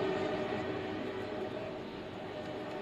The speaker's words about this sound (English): Amtrak roars by right behind us.